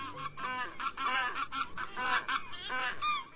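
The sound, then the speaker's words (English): A flock of geese migrating southward in October honking continuously, many overlapping calls in a loud, busy chorus with a rhythmic, repeating quality, with no voices present. “October skies traditionally ring with the rhythmic voices of geese migrating southward.”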